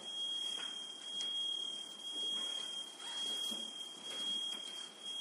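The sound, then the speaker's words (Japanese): A SECOM home security alarm sounds a steady, piercing high-pitched electronic tone that continues unbroken through the whole clip, over a hissy background, with no one speaking. “セコムなっちゃった。”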